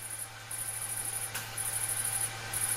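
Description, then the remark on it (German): A loud, shrill cricket chirps in long sustained trills broken by brief pauses, with a low steady hum beneath and no voices. “Eine leicht übertriebene Grille, oder?”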